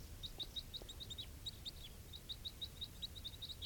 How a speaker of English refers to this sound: Recording, those two birds just took off.